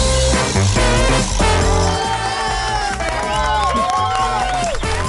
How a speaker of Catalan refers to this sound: Aplaudiments en directe i aquest últim programa que no podia ser d'una altra manera, el fem des de l'estudi, eh?